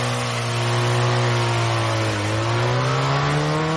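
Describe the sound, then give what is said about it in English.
A motorbike engine, kick-started by its rider, idles loudly with a steady droning hum, its pitch briefly dipping and then climbing again as the throttle is revved. No voices. “Grinning as he squashes his blonde hair beneath a helmet, he lazily kicks his motorbike to life.”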